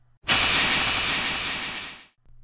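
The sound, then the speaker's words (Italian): After the engines are stopped, a voice imitates steam hissing from a steamboat's gauge-cocks as they are tried: one loud, sustained, breathy hiss lasting about two seconds, then it cuts off abruptly. “Provando i manometri.”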